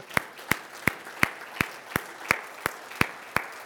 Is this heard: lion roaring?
no